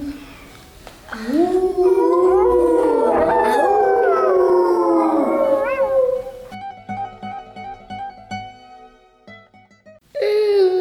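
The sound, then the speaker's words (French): A werewolf prowling a forest at night lets out a loud, drawn-out wolf-like howl that rises and wavers for several seconds, then fades into quieter, eerie sustained tones with faint rhythmic ticking. “Mais une bête rôde, un loup-garou.”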